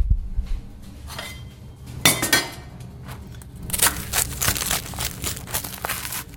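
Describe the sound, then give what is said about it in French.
A knife saws through a crispy, golden toasted cheese sandwich on a small cutting board, giving sharp crackly crunches that start with a single burst and then turn into a steady run of loud, rasping strokes. “On va aller le couper sur la petite planche à découper.”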